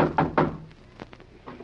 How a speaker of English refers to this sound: On our way to the bus, we can stop at Mrs. Plush's and deliver the table and collect from her. Knock again, Dagwood.